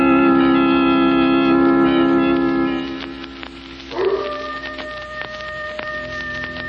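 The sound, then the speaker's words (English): A coyote howls in long, wavering tones from off in the hills by a sleeping village, rising again partway through, over a steady hiss like rain or wind with no voices. “Not a sound anywhere, Lamont, except that coyote off in the hills”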